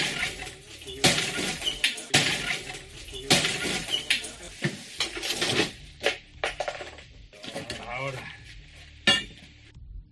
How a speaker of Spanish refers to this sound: Es el sonido de los cristales de la ventana de uno de los pisos turísticos ubicados en pleno centro.